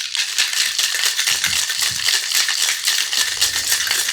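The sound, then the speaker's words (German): A cocktail shaker holding vodka, coffee liqueur and espresso is shaken hard and steadily to build foam, ice rattling in a fast, continuous, bright clatter for several seconds with no voices over it. “Interessant, dann schüttel mal los. Ja, mal ordentlich schütteln.”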